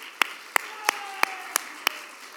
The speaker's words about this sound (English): Okay, there it is. Stand up, sir. Everybody, applaud this young man.